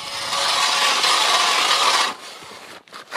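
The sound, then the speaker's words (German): A hand ice auger for ice fishing, with a screw and two sharp blades, grinds into the ice of the frozen Öschinensee with a steady, harsh scraping rasp for about two seconds, then quieter, choppier scraping as the blade slows and pauses, with no talking. “So tönt's, wenn der Markus Schober seinen Bohrer ins Eis treibt.”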